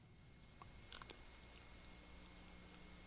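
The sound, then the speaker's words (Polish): The host swallows saliva in the background, a few soft wet mouth clicks clustered within a second, faint against a steady low hum with no talking. “To przełykanie śliny pana prowadzącego jest w tle rozbrajające.”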